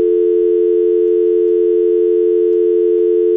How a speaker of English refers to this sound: Why is there just a dial tone? It's not dialing. You gotta push 9 first. You're in a building, okay?